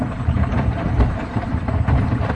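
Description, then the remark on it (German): A washing machine pump, its hum made a little quieter, hums with a steady, low, rumbling drone that holds an even level throughout, with a faint mechanical rattle layered on top and no voices. “Das Brummen dieser Pumpe ist jetzt zumindest ein bisschen leiser.”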